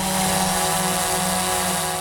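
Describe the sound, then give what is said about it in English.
A small hobbyist drone hovers, its propellers producing a steady, loud, high-pitched buzzing whine with a constant droning tone and no voices. “Even the small ones that hobbyists buy can be pretty loud.”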